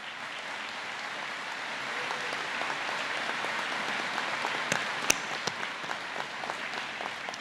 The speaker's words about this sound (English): So for all you have done to reach this moment, class of 2018, give yourselves a round of applause. We're proud of each and every one of you.